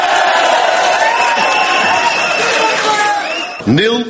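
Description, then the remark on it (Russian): A large crowd of supporters cheers and shouts continuously, greeting New Flemish Alliance leader Bart De Wever after the Belgian elections, a dense roar of many voices with whoops and calls rising through it, loud throughout and swelling again near the end. “Главного героя выборов, лидера нового фламандского альянса Барта де Вевера, огромная толпа сторонников встречала как римского триумфатора, и свое выступление он начал с латыни.”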